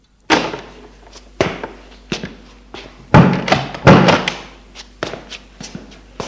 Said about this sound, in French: L'on frappe à la porte. Entrez.